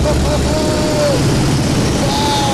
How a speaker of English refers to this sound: Bensing puts the biplane into a dive and then pulls back on the control stick. We do a loop.